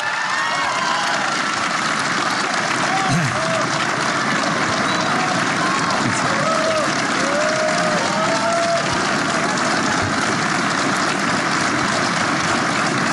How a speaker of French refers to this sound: On entend les applaudissements du personnel de Matignon pour Jean Castex.